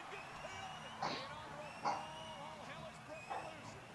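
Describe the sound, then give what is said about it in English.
A dog barks sharply about three times at irregular intervals over a steady murmur of background noise with faint whining tones. “I'm trying to keep these dogs from going crazy.”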